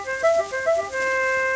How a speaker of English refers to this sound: This bugle for a nice boy scout.